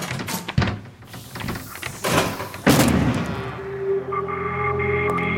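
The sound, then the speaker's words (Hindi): A door is forced open, broken down with several heavy, irregular banging thuds, followed by a low sustained tone as things settle. “लगता है दरवाजा तोड़ना पैना।”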